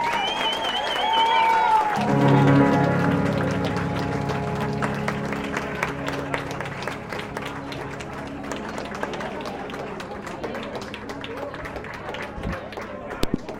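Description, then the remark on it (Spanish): An audience breaks into steady, dense applause that carries on for over ten seconds, with a few cheers at the start and music with sustained tones playing underneath. “Un fuerte aplauso.”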